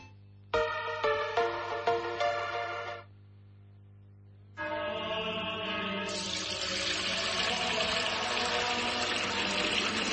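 Fuente Umbría pure spring water pours into a container in two bursts, a short splashy pour, a brief pause, then a longer steady stream that fills and brightens in tone. Fairly loud, with no voices.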